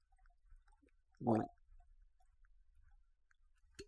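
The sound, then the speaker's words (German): A single short slurp and swallow as someone sips a drink, wet and gulping, surrounded by near-silence with a faint click at the very end. “Nicht in den Rachen laufen lassen, in den Mund laufen lassen, kurz genießen, dann runterschlucken.”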